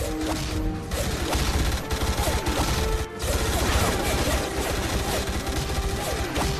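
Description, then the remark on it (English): A dense, continuous barrage of rapid gunfire with sharp crackling impacts and small bursting pops, loud and close, running without pause with no voices, as Teal'c is shot at in the back while running away and devices on the wall explode. “Now they're shooting him in the back.”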